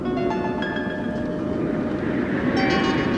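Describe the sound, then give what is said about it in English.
A train rumbles steadily, with a constant low roar, rattling wheels and thin metallic squealing tones drifting above, like a train pulling into a station. No one speaks. “In the darkness of a February night, a stranger dressed in a wide-brimmed hat and very long coat got off a train at Bramblehurst.”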